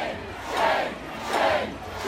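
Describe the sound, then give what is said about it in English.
A large crowd of counter-protesters boos right-wing protesters at a rally in Lafayette Square in the rain, loud long swelling waves, two big surges rising and falling over a steady roar of many voices outdoors. “they were completely drowned out by loud boos and Game of Thrones references”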